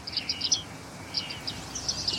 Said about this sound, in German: Da hören wir die Bartmeisen. Da fliegt auch eine.